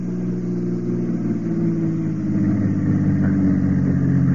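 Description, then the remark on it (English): A car engine idles in Tangiers at a quiet, dark, deserted spot, a steady, low droning hum, fairly loud, swelling slightly toward the end with no voices over it. “But, mademoiselle, I know you will not force us to drag this screaming from the car.”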